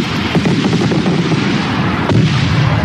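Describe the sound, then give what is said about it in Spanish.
Fireworks crackle and boom continuously over a dense, rumbling wash of noise, with sharp bursts popping out near the start and a louder blast toward the end. No voices are heard. “Y así, con este sonido de fuegos artificiales, vamos a recordar”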